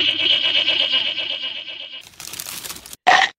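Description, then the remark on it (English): A goat bleats loudly for about two seconds in a wavering, quavering cry, followed by a burst of crunching and crinkling as it eats mail, then a short sharp final bleat. “It's now been eaten by a ghost goat.”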